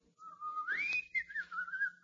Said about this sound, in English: They've included my favorite number. You? …. I can whistle it for you.